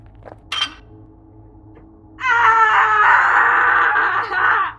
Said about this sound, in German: ist eine Straßenlampe auf dem Kopf gefallen. Er blutet und blutet. Er schreit von den Schmerzen